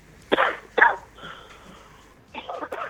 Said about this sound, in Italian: Salute intanto allora, per quello che riguarda la tosse.